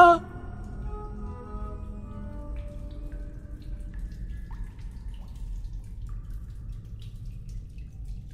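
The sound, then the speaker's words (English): Water drips in a hollow, echoing space: a resonant plink at the start rings out and fades, followed by a few faint drops over a steady low rumble. “Endless silence, except for the dripping water.”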